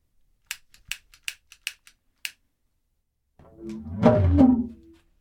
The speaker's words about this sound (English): And we're just going to use these as different sized didgeridoos to get different tones out of them because they're going to vibrate a little bit differently just because they're all different sizes.